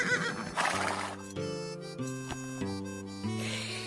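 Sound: horse neighing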